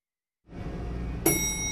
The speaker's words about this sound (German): hörst du das Gebimmel? Hast du unser Gebimmel gerade gehört?